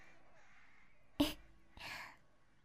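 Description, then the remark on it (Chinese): Two harsh, raspy crow caws sound out in quick succession: the first short and sharp, the second longer and drawn out, over a faint, quiet background. “你看，乌鸦都说自己饿了”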